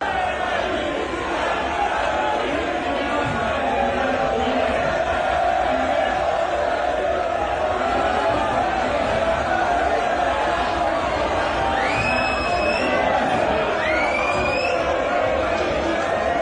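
A huge stadium crowd at a match attended by Gerard Piqué roars in a dense, sustained chant of a name, loud and steady throughout, with a couple of sharp rising whistles cutting through near the end.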